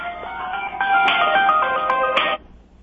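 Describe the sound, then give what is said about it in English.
A cell phone ringtone plays a bright, electronic melody of quick stepped notes during a live radio broadcast, fairly loud and steady for about two seconds before cutting off abruptly, with no one talking over it. “Oh, Now, this could be her on my cell phone.”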